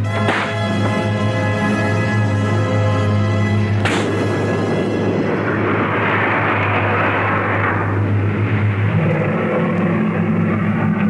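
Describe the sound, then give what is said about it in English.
A pair of sharp slap sound effects for a drama scene of a man hitting a woman hard, the second several seconds after the first, each ringing out into a long, rumbling reverberant wash over a steady low hum, with no voices. “That's certainly a smack that reverberates.”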